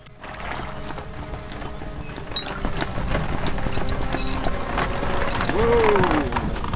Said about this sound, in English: Robin watches the horse and cart arrive, driven by the tax inspector and the abbess.